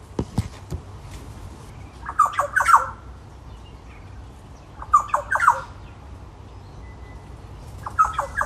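A bird taps and scratches at a fly screen door in Port Douglas in three short, rattling bursts, mixed with harsh squawking calls and separated by quiet pauses over a low background hum.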